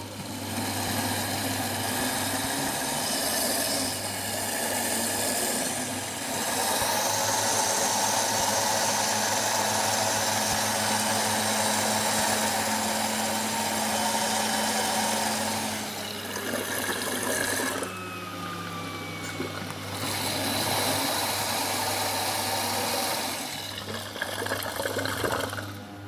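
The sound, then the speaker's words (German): A kitchen blender runs loudly and continuously with a steady, humming motor whir, blending ingredients that include sweet paprika. Its pitch shifts and surges briefly a couple of times as the contents churn. No one speaks. “Jetzt haben wir alles reingemacht und jetzt machen wir den Mixer an.”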